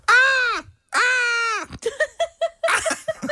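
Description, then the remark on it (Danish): A person imitates seagull cries: two long, loud, high wailing calls that rise and fall, followed by a rapid series of short, clipped squawks with a breathy, laughing edge. “Forestil dig, hvis vi mennesker kun kunne kommunikere ligesom måger.”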